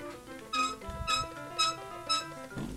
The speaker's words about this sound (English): Oh, can you hear that? I can. That horrible squeaking? Yeah. Yeah.